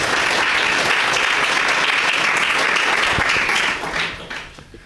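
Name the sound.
audience applause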